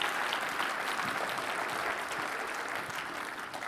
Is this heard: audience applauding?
yes